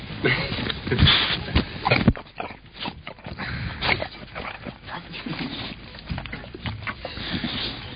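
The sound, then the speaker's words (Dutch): A dog named Donna lets out soft, intermittent whimpers and snuffling noises over several seconds, with faint voices murmuring in the background. “Misschien kan Donna zelf ook nog enkele geluiden uitbrengen.”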